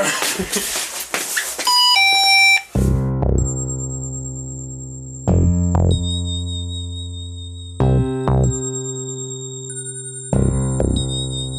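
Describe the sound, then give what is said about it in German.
An elaborate electronic doorbell chime: a quick run of bright tinkling notes, then a sequence of deep, resonant bell tones ringing out and sustaining, several strikes spaced a couple of seconds apart, loud. “Auch mehr so eine unspektakuläre Türklingel, ne? Willst du die spektakuläre Version hören?”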